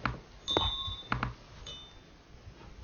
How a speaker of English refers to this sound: So when we put our Vajra and Bell down,